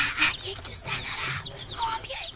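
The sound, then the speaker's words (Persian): A cluster of chicks in a cardboard box cheeping nonstop, high thin peeps overlapping in quick, busy bursts, moderately loud, with faint murmuring voices underneath. “جوجه هام توی کارتون سر و صدا میکنه.”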